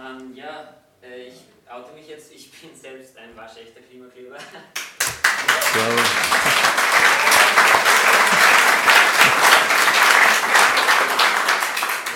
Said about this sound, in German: Ja, danke für den Applaus erstmal.